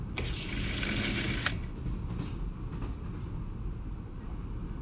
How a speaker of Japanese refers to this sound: 列車の音に耳を澄ませて、ゆっくり、ゆっくり、力を抜いてください。